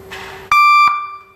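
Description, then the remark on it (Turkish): The fast model of a reverse-gear warning horn, a horn much requested at the vehicle inspection station: a loud, buzzy electronic tone repeating in quick, evenly spaced pulses, each running straight into the next, with no one speaking. “Ve bir de bunun hızlı modeli var.”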